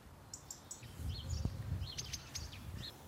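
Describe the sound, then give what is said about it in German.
Several birds chirp and tweet in short bursts from a birch and a hedge, scattered across a few seconds over a low rumble of outdoor background noise, with no one speaking. “Das Schöne ist natürlich, wenn man die Vögel sieht. Ich mag die Vögel so gern.”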